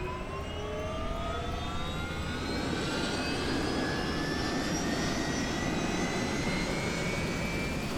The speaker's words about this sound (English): The helicopter takes off and heads to altitude.